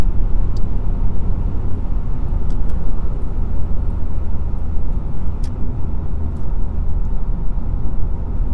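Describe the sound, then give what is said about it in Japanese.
A regular passenger car overtaking the speaker's vehicle on a highway, heard as loud, steady low road rumble and engine drone that fills the whole stretch, with faint high ticks above and no voices. “やばい、普通車に抜かされた。”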